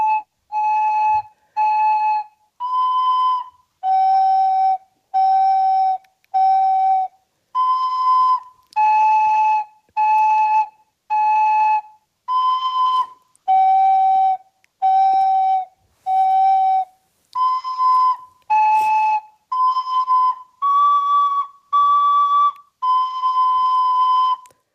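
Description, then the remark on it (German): A recorder plays a simple tune of about twenty-two separate, evenly spaced notes, breathy and clear, hovering around one mid-high register with small steps up and down, no voices. “Dann spiel doch mal ein paar Töne an, damit wir alle wissen, wie klingt denn so eine Blockflöte überhaupt.”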